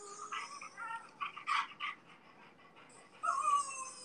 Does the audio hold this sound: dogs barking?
yes